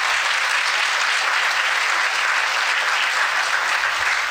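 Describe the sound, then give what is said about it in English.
A crowd applauds steadily, a dense, continuous wash of clapping that stays loud and even throughout with no voices standing out. “Please clap for her, because she did so much work.”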